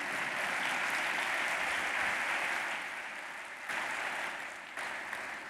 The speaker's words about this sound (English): Sì, sì, potete applaudire.